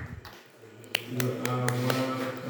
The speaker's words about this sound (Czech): Zatleskejte Ježíšovi, zatleskejte paní Marii. Zatleskejte našim členům, kteří sem přijeli na pouť.